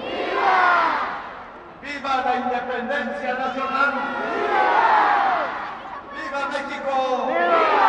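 Tens of thousands gathered in Mexico City's main square, outside the colonial building that houses the president's office, roar in loud, swelling waves of shouting, alternating with bursts of a military band playing short, repeated brass phrases between the cheers.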